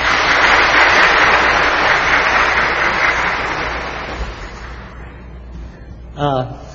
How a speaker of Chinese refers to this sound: 大家鼓掌欢迎。